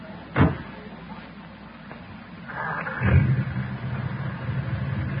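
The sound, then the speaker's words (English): A sharp clunk, then the engine of an old jalopy cranks and catches, settling into a steady, low idling rumble that carries on to the end. “That engine sounds nice, doesn't it?”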